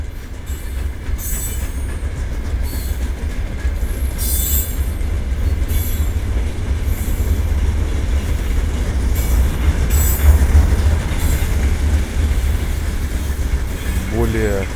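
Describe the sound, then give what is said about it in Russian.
A train rolls steadily past on railway tracks, a loud, continuous rumble with intermittent metallic clanks and brief wheel squeals throughout. “немного машин, шипение такое, самолет, который сейчас гудит, железная дорога и поезда проходящие.”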